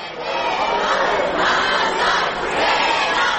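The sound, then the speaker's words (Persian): A large crowd of thousands of protesters in Turkey, rallying in support of Palestinians and demanding a ceasefire in Gaza, chants and shouts together in loud, sustained waves, voices rising in rhythmic swells about once a second without a break. “هزاران تن از معترضان روز گذشته به حمایت از فلسطینی ها در شهرهای مختلف ترکیه دور هم جمع شده و خواستار برقراری آتش بس در نوار غزه شدند.”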